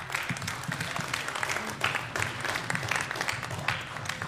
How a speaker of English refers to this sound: Can we give them one more round of applause, please?